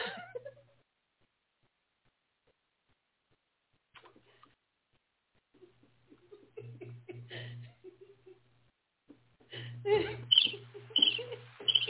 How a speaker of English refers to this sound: I'm going to let the birds chirp because I want to say something else.